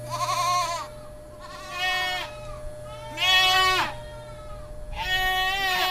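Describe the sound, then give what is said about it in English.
Goats bleat loudly, four drawn-out, wavering cries spaced about a second apart, with no talking and a faint steady hum underneath. “I happen to know that Skylar can shear 10 angry goats in an hour by themselves”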